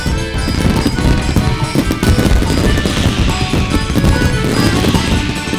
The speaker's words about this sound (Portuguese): E os fogos de artifício iluminando o céu?